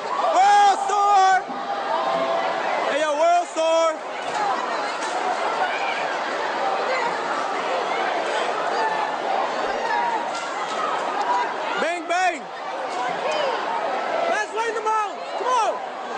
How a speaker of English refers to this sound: Crowds, masses, now they're packed outside of a retail store. They're pressing in. Now they're fighting in the middle of the mall, throwing.